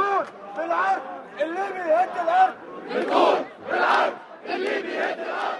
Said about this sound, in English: Outside the Libyan embassy in Cairo, anti-Gaddafi protests continued again today. The crowd called for the ambassador to resign, as have high-ranking Libyan diplomats in several other nations.